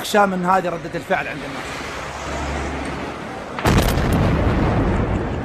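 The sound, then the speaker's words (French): A car bomb explodes in a Shiite neighbourhood of Baghdad on a day of a Shiite pilgrimage there, with a sudden, loud blast that becomes a sustained roaring rumble. Brief voices and a low drone come before it. “Voilà, c'est celui d'une voiture piégée qui explose dans un quartier de Bagdad.”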